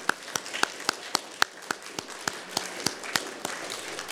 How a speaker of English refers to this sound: Maybe we would like to give a round of applause to Banzat and ICEB for the dinner this evening.